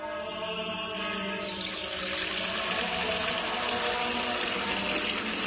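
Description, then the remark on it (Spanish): Water pours steadily into a container, a continuous splashing rush with a faintly rising, hollow tone as it fills; fairly loud, with no voices. “Hermano Pedro, es que no nos quedaba agua bendita. Agua pura de manantial Fuente Umbría.”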